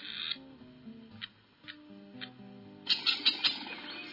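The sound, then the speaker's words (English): A Hungarian partridge gives a series of short, high, creaky calls, a few spaced squeaks followed by a louder rapid cluster of grating notes, over a quiet background. “That's a hun.”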